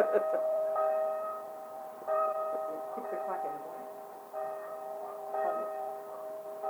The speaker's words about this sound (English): See, as the church bells chime out his name. I bet that'll come through real clear on this.